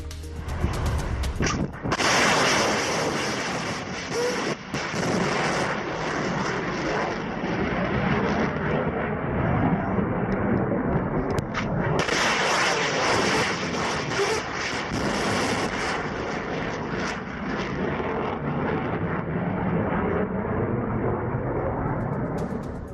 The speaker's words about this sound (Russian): Расчет берегового ракетного комплекса «Бастион» с побережья Черного моря выполнил пуск двух высокоточных ракет «Оникс». Ракеты полетели по назначенным наземным целям на территории Украины.